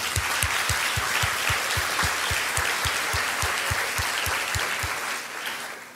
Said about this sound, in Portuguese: Quem dá glória a Deus por essa turma abençoada da igreja? Vamos dar uma salva de palmas aí, ó.